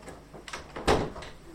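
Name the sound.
door being shut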